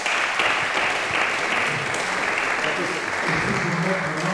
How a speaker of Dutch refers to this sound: Geweldig dat jullie er zijn. Zeer hartelijk welkom. Applaus, mensen.